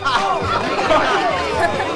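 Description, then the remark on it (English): Steady overlapping chatter from party guests helping themselves to food and drink, many voices blending into a continuous murmur with no single clear speaker, holding an even loudness throughout. “The party guests help themselves to food and drink.”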